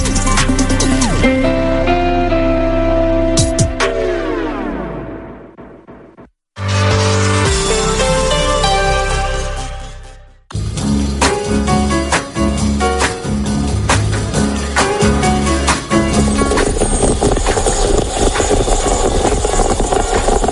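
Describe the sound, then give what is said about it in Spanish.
A coffee machine brewing coffee at 4:08 in the afternoon runs with a loud, steady mechanical hum and whir. It winds down with a falling pitch, cuts out briefly, then starts up again twice with dense, rattling motor noise. “Bueno, no sé si identificas este sonido, pero es el sonido de una cafetera.”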